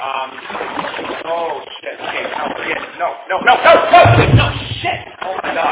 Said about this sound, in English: Oh shit. I think I just pissed him off. I just hit him with my oar. And it's this fucking polyester one. It's probably not even gonna hurt him.